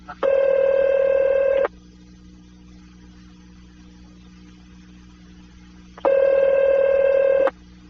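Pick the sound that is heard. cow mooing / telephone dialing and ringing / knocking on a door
telephone dialing and ringing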